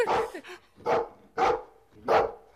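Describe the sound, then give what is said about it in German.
A dog barks four times in a steady rhythm, each bark loud and sharp, with brief pauses between them and no talking. “Gebt mal dem Hund einen Fußtritt.”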